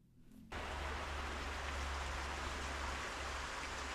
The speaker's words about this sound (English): That's the water being pumped up from the mine workings. And as you can see, it then feeds the canal there. Couldn't get over how clear the water was, given the fact that it's from deep down below.